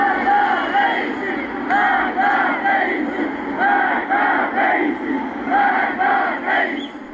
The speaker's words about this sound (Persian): گزارش ها حاکی از تجمع اعتراضی در روز یکشنبه در شهر کرد است. بنابر تصاویر منتشر شده در شبکه‌های اجتماعی، معترضان شعارهای علیه سران حکومت از جمله ابراهیم رئیسی، رئیس جمهوری اسلامی سر دادند. شهر کرد یکشنبه اعتراضات همچنان ادامه داره.